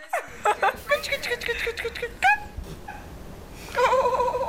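Cat video sounds play back: a string of short, high meow-like calls and soft snickering, ending in a longer warbling cry. The sound is moderately loud and clear, with no speech.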